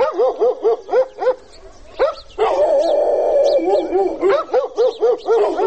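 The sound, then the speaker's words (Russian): Several dogs in a quiet village bark furiously in rapid, rhythmic volleys, with a sustained howling or whining stretch in the middle before the frantic barking resumes. “Впрочем, периодически этот плотный слой тишины разрывает остервенелый лай собак.”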